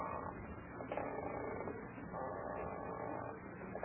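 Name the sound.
rocking chair creaking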